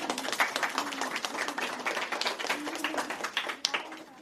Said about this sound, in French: On peut les applaudir.